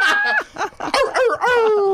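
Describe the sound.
A person imitates a dog barking with a run of loud, tonal yelps and woofs, ending in a long, drawn-out note that slides downward in pitch.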